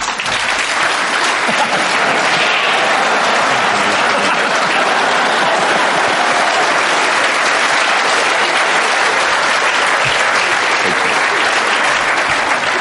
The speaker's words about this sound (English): You've applauded too early, and you're going to have to do it again.